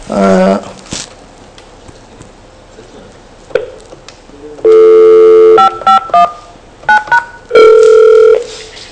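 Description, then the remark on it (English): A desk phone gives a steady dial tone, then a quick run of clear keypad beeps as number 5519 is dialed in a hard-phone-to-hard-phone call demo, followed by a longer ringing tone on the line. “I can call from this number to the number which is present at the last.”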